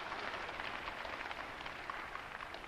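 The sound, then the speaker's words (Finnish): A crowd claps steadily throughout in praise of Jesus, a dense, even patter of many hands with no voices standing out above it. “Taputetaan uudelleen.”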